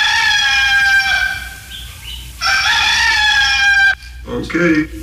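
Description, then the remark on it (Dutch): A rooster crows loudly twice, long harmonic calls stretching out, followed by a few quick clucks from a chicken, used as a morning wake-up alarm. “De vroege luisteraar zette zijn wekkertje. Of in dit geval de kip en de haan.”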